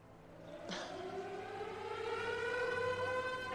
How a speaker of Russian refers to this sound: Сирена, это он. Сирена!